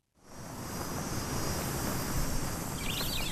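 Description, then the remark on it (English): A dense, steady drone of cicadas hums without pause, bright and high-pitched, with a few faint chirps rising near the end; no voices. Recorded in the suburbs of Darwin on a searing hot morning during the build-up season, when cicadas hatch. “It's a searing Darwin morning in the season known as the build-up, when cicadas hatch and hum and sweat becomes a fact of life.”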